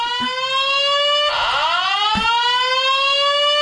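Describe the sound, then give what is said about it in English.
A loud electronic alarm blares continuously, a steady high-pitched tone with rich harmonics that dips and swoops in pitch midway through, with a couple of brief knocks underneath. “That's some alarm. That's fantastic. So I really started yelling at the alarm, that being is like, annoying.”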